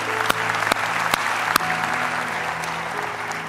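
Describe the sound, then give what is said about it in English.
A crowd applauds steadily at a Victory Family Church service after a prayer to receive Jesus, a dense wash of many hands clapping at an even level, with a few sharper, louder claps standing out early on and a low hum underneath. “Give them a hand, would you?”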